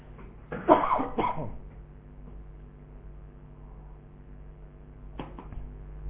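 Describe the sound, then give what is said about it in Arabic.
A man coughs twice in quick, harsh bursts, then after a quiet pause lets out one shorter cough near the end. No one speaks. “انا ما كنت بكح بس فيه يا جماعة، بكح والله.”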